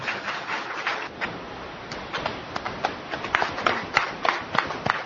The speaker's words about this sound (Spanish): Lo aplauden, por favor.